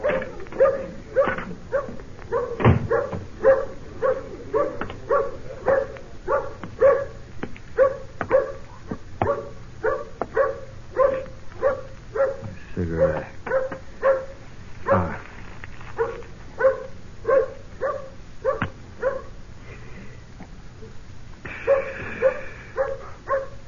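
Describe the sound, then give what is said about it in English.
A dog barks and yips rapidly and almost without pause for over twenty seconds, fairly loud, with a few higher whining yelps mixed into the steady stream of barks. “Hey, dog, you got a friend for me?”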